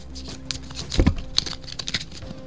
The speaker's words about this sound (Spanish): ¿Y cómo se hacen las buenas predicciones? Está claro, con las cartas del tarot. Así que voy a empezar a barajar.